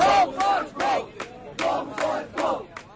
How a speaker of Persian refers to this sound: در پایتخت شهر اسلام آباد تخمیناً 20 فعال حقوق بشر با شعار گاو مشرف گاو، یعنی مشرف برو، جمع شدند.